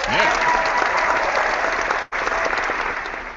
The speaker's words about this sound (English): So we don't know who you are, sir, but here's a round of applause for you.